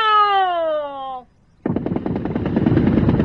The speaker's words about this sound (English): Here they come. First rank. Aim. Fire. Bang. Bang. Bang. Bang. Bang. Bang. Bang.